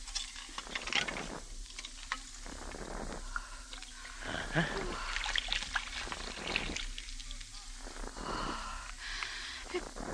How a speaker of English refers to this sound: Loosen the screw, then pour off the top liquid.